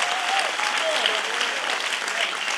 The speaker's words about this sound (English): Come on, somebody, if we're gonna clap, let's just clap. Let's just shift the atmosphere.